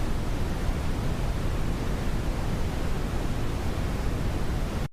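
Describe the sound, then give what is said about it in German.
Steady brown noise plays alone for about five seconds, a dense, even rumbling hiss weighted toward the low end, constant in loudness with no breaks before it cuts off abruptly. “Oder Rauschen, zum Beispiel braunes Rauschen.”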